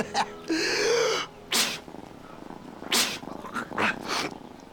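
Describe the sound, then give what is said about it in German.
A cat meows several times, a drawn-out yowl followed by a few shorter, sharper mews with brief pauses between them, no talking. “Hier muss irgendwo eine Katze sein.”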